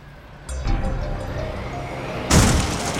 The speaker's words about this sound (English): Anya and Yaja spun towards the sound behind them to see a heavy truck had just bowled its way between two waist-high barriers and was tearing down the street at them.